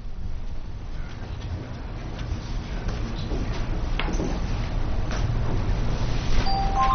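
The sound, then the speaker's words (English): A mobile phone starts ringing near the end with short electronic tones, heard over a steady room hum with faint shuffling and no one talking. “I didn't realize my phone was on.”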